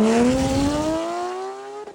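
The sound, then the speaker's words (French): A sports car with a JCR aftermarket exhaust line roars loudly as it accelerates, its raspy engine note climbing steadily in pitch for about two seconds, with no voices. “Une ligne JCR, elle fait un son de malade.”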